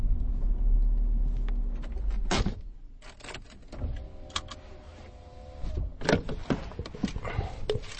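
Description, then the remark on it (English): Inside a moving car driving down to an estuary: a low engine rumble at first, then scattered clicks and knocks from the cabin and a brief motor whir, like an electric window, with no one speaking. “I'm following him in my car down to the estuary.”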